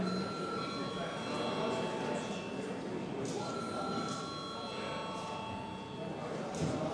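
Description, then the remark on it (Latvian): A parliament chamber bell in the Saeima rings before a vote, continuously for several seconds, a steady, loud electric ringing with a metallic, buzzing tone and no break in it. “Lūdzu zvanu.”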